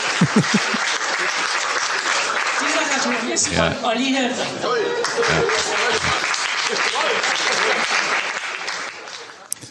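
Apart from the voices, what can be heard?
audience applause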